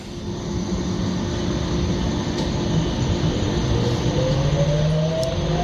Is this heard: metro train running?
yes